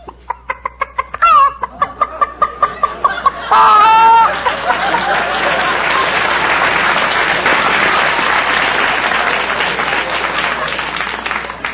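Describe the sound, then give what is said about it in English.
A person imitates a chicken cackling: a quick run of rhythmic clucks climbing into a couple of shrill squawks, then an audience breaks into loud, sustained applause. “You mean make a noise like a chicken? Cackle.”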